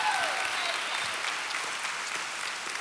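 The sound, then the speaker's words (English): A church crowd claps steadily for the worship team after a special number and song, a dense, sustained wash of applause at even loudness throughout, with faint cheers or whoops rising briefly near the start. “I want you to thank that worship team, that special number and song. Let's thank those folks if you could.”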